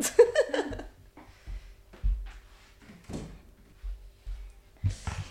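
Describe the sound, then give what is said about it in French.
A door is opened to let a cat out: a burst of clattering and handle noise, followed by a few dull knocks and thumps spaced over several seconds, with light shuffling in between. “Attends, je vais juste ouvrir la porte parce que mon chat, faut qu'il aille faire pipi, je crois.”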